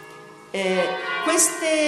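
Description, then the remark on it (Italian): Church bells ring out with two clear strikes about a second apart, each leaving a rich, sustained metallic hum that lingers and overlaps, fairly loud with no voices over them. “Ecco, intanto che le campane suonano, voi pensate.”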